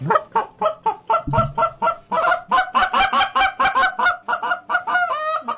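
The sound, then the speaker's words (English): A goose call is blown in a rapid, steady run of loud honks, clear, repeating about every half second, growing busier and overlapping midway like several geese calling together, ending in a few drawn-out, rising honks. “And he said Fred Bear and goose hunting didn't go together.”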